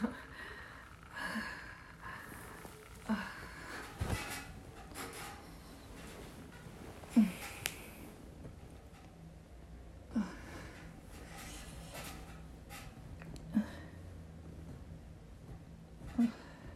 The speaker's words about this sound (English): Yeah, the bed frame is squeaking because pushing down onto the toy.